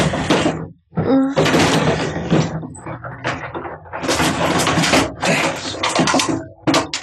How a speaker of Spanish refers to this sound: Todos los cajones del escritorio han sido vaciados de su contenido.